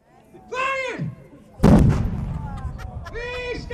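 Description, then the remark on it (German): A single loud ceremonial cannon salute shot booms out at a political celebration in Biel, Switzerland, marking the 1992 vote against joining the EEA, and rolls into a long, reverberant decay, with sustained tonal sounds rising briefly before and after the blast. “Böllerschüsse, Treicheln, Marschmusik.”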